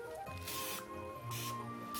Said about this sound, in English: So instead of the oven, he's cheating with the hot griddle. Actually, I better spray it.